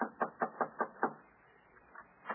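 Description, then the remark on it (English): Six quick knocks on a wooden door in a steady rhythm, followed by a brief pause and two softer knocks, with no voices. “Yeah, knock on the door.”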